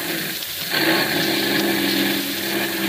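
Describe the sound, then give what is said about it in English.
An armored car's heavy engine drones steadily with a low, tonal rumble and a hissy mechanical whine as it comes over the top of a hill, growing a little louder after the first moment and then holding steady. “There's the armored car coming over the top of the hill.”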